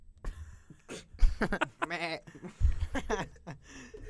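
A goat's bleat rises in the middle, a wavering, vibrato-laden cry lasting about half a second, surrounded by short bursts of bleat-like or chuckling sounds at moderate loudness.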